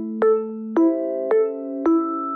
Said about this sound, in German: Und dann gibt es den Sondergong, der klingt dann schon sehr anders, der einfach klar macht, so Leute, jetzt mal zuhören.